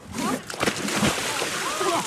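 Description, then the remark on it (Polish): A person wearing a T-shirt jumps into water with a loud splash, followed by continuous sloshing and churning as they move about, with faint voices calling in the background. “mówi, że jest cudownie, wskoczył w koszulce.”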